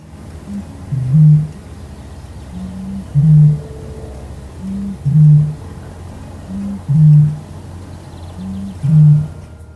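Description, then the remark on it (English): A Eurasian bittern booms repeatedly: five deep, hollow, foghorn-like hoots, each led by a softer short note, spaced about two seconds apart over a quiet, faintly hissing outdoor background. “The bitterns' boom is often described as like someone blowing over the top of a milk bottle.”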